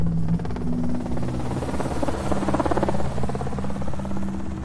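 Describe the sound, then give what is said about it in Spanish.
Helicopter rotor blades thud in a steady, rapid rhythm with a dense engine drone, loud and continuous, as the helicopter circles over the Hotel Corona de Aragón on calle Azoque during a fire. “Pilar Quella estaba trabajando en la calle Azoque, frente al Hotel Corona de Aragón, cuando escuchó las aspas del helicóptero”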